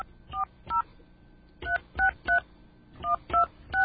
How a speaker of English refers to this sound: They gave us some phone numbers here. We're going to actually call a couple of these phone numbers.